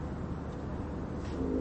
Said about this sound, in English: Can you hear Gracie snoring?